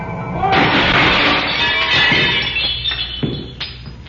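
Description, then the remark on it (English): A man falls through a plate glass window, which shatters in one loud, heavy crash, followed by several seconds of tinkling, clattering shards falling and scattering. “He fell right through a plate glass window.”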